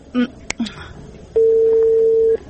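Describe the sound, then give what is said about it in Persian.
A few short keypad beeps and a sharp click of a mobile phone being dialed to place a call, followed by one loud, steady ringing tone that holds for about a second. “خی زنگ بزن، اشکی خوب نیستم.”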